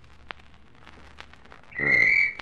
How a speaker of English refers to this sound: What is it? What is it? Sounded like a police whistle. Sounded like it.